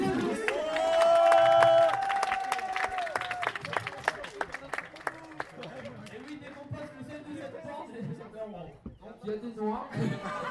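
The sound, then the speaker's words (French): An audience bursts into dense, steady clapping, with a long high whoop rising over it early on; the applause thins after several seconds into scattered claps and crowd chatter. “Et on les applaudit.”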